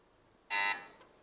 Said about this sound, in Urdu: چلیں جی، ہم اس میں آپ کو چیک کر لیں بھائی، آپ کی وہ بزر بج رہے نہیں بج رہے؟